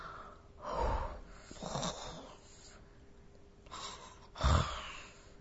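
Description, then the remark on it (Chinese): A girl fakes snoring to pretend she is asleep: three loud, exaggerated snoring breaths spaced a second or two apart, with quiet pauses between and the last snort the strongest. No one speaks. “假装打起了呼噜”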